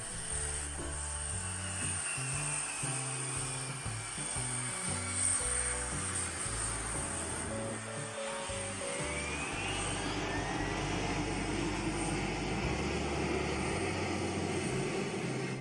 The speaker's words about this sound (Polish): To teraz dla odmiany przenosimy się do Rosji, gdzie 757 ląduje na ośnieżonym pasie.